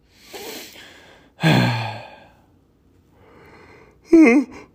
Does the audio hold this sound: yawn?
yes